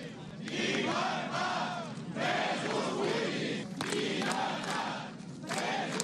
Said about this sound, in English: Around 100 of Catalonia's firefighters shouting freedom for political prisoners gathered on Monday in Barcelona to protest against Article 155, which allowed the Spanish government to apply direct rule on the northeastern region